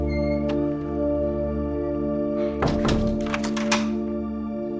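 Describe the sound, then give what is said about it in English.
A nurse closes the door of a hospital room as she leaves; it swings shut with a solid thunk and a brief rattle of the latch, over a steady low electrical hum. No one speaks. “The nurse glances back as she leaves, then closes the door.”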